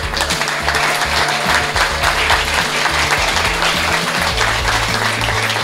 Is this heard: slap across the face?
no